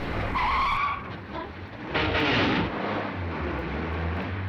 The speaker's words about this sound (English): Gus lurches away in the car.